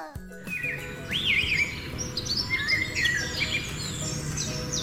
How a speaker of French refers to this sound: C'est une belle musique, tu trouves pas? Le merle, le rouge-gorge, le rossignol, le passereau. Et il faut bien reconnaître que ces oiseaux sont de formidables chanteurs.